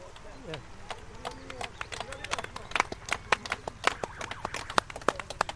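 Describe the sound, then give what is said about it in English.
Racehorses with riders gallop past in a bunch, a rapid, irregular drumming of hooves that grows denser and louder as the pack sweeps by, with faint voices murmuring underneath at the start. “The leading riders drew level with where we were.”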